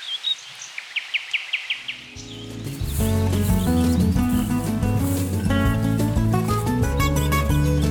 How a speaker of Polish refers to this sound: Skoro Doliny Rzeczne, no to słowik szary się tu pojawił, typowy dla naszego regionu i dla wschodniej Polski, bo od Krakowa i Pomorza, od tego pasma do zachodu jest słowik rdzawy. Zaczął koncertować mimo całonocnego koncertu.